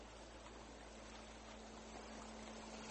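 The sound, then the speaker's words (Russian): A steady, continuous wash of sea surf fills the whole stretch, fairly loud, with a faint low hum running underneath and no voices. “Под шум морского прибоя займите удобное для вас положение.”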